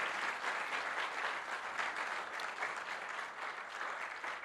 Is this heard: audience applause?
yes